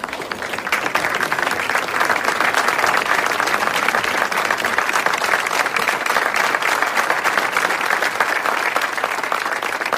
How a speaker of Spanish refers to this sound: Bueno, bueno, bueno. Prepárense para recibir aplausos.